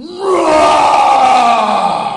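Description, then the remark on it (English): A lion's loud roar rises quickly at the start, then holds as one rough, sustained bellow for about two seconds, easing slightly at the end. No talking accompanies it. “The lion thought it might be as well to frighten the wizard, so he gave a large, loud roar.”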